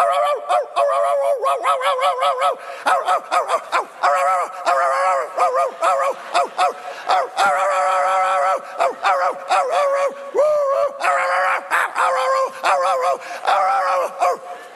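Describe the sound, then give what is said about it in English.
A dog yelps and whines over and over without pause as its leash stops it short of its food bowl, loud, its high cries rising and falling in rapid, insistent bursts throughout. “You know, but like that was 5 minutes into it, and the dog won't stop.”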